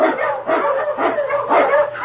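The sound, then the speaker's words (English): A pack of husky sled dogs, led by the Eskimo lead dog King, barks and yips loudly and continuously, several overlapping voices forming a rapid, repeated chorus, with no one talking; blazing a trail through storm and snow in the Yukon for Sergeant Preston in Challenge of the Yukon. “On you, Huskies!”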